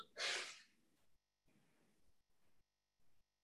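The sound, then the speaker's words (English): A single loud, sharp sneeze bursts out at the start, followed by a few short, faint breathy noises and quiet gaps. “Bless you.”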